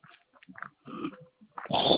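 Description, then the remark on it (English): A dog snorts and whines in quick, irregular bursts, ending in a louder, rough huffing sound; it sounds agitated, with no one talking. “I told my pup to sit down. he's freaking out.”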